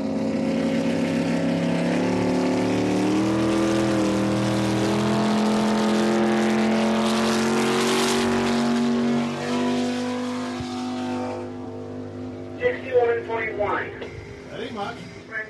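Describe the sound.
The powerful engine of Foolish Pleasure roars loudly. It is a 2,300-pound racing lobster boat, engine included, and not a working boat. The droning pitch climbs as it speeds past on a 61.1 mph run, then quickly fades away before a voice starts speaking.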